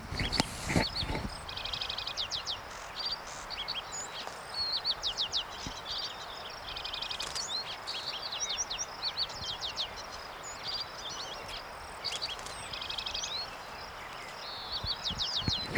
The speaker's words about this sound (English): That, of course, is a lark sparrow in the background, in the near background.